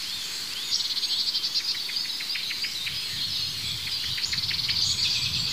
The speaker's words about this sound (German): Ja, da hört diese Aufregung der Amsel. Das Huit Huit hat aufgehört. Ja, da ist es wieder.